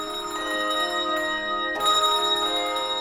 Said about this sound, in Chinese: 钟声响，歌声起